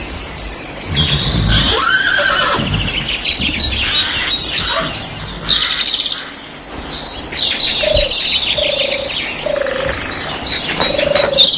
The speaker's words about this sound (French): Ils mettent les harnais, selles et tout ce qu'il faut pour monter à cheval. Et malgré qu'ils ne soient pas équipés, ils montent sur les chevaux.